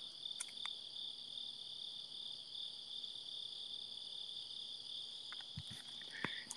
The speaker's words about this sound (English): Oh, you can hear these crickets loud.